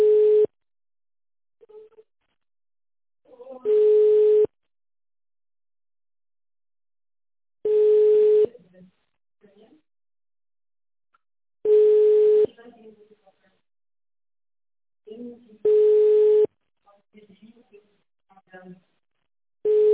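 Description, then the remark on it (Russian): A telephone line tone repeats at a slow, steady pace while a caller is on hold. Each loud, clear beep lasts under a second and sounds about every four seconds, with faint muffled noises in the gaps. “Это, наверное, где они телефон подключали.”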